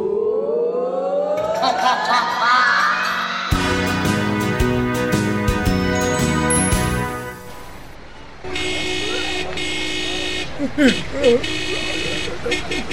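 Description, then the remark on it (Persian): Busy street traffic with several car horns blaring in long, overlapping honks, loud, over a steady rumble of engines, with voices mixed in. “ترافیک، ترافیک”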